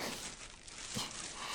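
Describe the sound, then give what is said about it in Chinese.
A plastic bag crinkles and rustles steadily as it is untied and worked open, a dense, bright crackle with a slightly sharper crunch near the middle, with no voices. “你之前修得这么干净，连塑料袋都解不开，最后还是让我帮你吧。”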